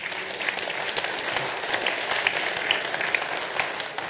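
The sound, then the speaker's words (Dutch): An audience applauds a political party's candidate as he is welcomed, steady dense overlapping claps forming a continuous wash of sound at moderate loudness for several seconds, with no voices heard. “Geef een hartelijk applaus, Erik Boshuizen.”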